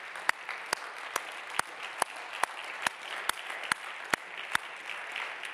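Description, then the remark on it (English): An audience claps in praise to the Lord after a prayer, sharp unison claps landing in a steady, quick rhythm over a dense wash of scattered applause. “Before you're seated, would you give the Lord a hand clap of praise in this place?”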